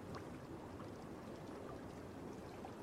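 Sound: flowing water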